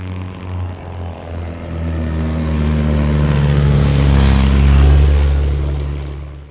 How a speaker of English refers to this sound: But at her funeral, Robbinsdale Flyers honored her memory by flying a plane over the cemetery and showering her grave with flowers dropped from the sky.